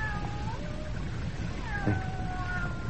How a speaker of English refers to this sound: What's that? Hey, it's a cat. Hey.